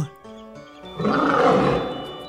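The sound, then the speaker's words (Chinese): A lion guarding a magic maze roars angrily, swelling up after a brief harmonic lead-in, loud, building into a broad rumbling growl that holds for over a second before easing off. No one speaks. “驻守在迷宫中的狮子 Lion 守卫发出怒吼，声音好吓人啊。”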